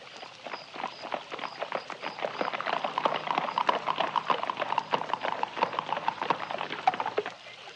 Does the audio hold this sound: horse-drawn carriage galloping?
yes